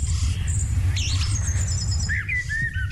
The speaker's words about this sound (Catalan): una estació de ràdio de Manchester que emet sons dels ocells exclusivament. Val? Si vosaltres hi connecteu, escoltareu... Però tot el dia.